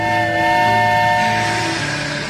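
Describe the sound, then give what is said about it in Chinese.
A long train, an express bound for the North Pole, pulls in and comes to a stop at the front door of a house on Christmas night, steady metallic squealing tones ringing over a low rumble for a couple of seconds, loud and continuous, with no voices. “在某个圣诞夜，有个相信圣诞老人存在的小男孩，在恍恍惚惚的睡梦中，突然听到一列长长的火车停在家门口。”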